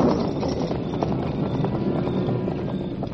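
horse hooves clip-clopping

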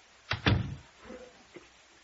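door being shut

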